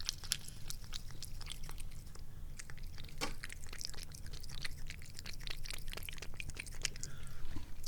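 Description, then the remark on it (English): A cat laps water from a bowl after water is poured into it from a jug, a quick, steady run of small wet clicks and slurps continuing for several seconds with no voices. “And then I stop pouring the water out of the jug and she drinks the water out of the bowl.”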